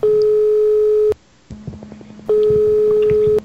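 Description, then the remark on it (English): A telephone ringback tone from an outgoing call sounds twice, each a steady electronic buzz lasting about a second, separated by a short pause filled with faint line noise. No one speaks. “Yeah, it's ringing.”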